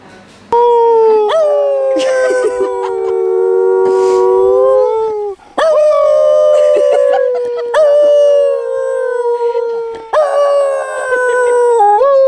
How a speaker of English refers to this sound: The dog could not keep itself from howling along with the man, and we couldn't keep ourselves from laughing at both the dog and the man.